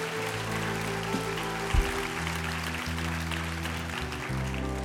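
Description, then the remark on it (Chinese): An audience at a Christian worship service gives applause to the Lord in a dense, steady wash of clapping that lasts about five seconds, while sustained low keyboard chords shift underneath. “把吉他的掌声归给我们主，哈利路亚，哈利路亚。”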